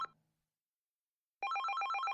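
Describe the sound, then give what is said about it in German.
A telephone rings with a rapid, trilling electronic bell pattern, loud, starting after a brief silence and continuing steadily to the end, with no voices. “Nach dem Essen klingelt das Telefon.”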